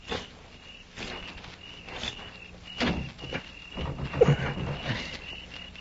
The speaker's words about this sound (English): It's shut, all right. I'm going to try the door.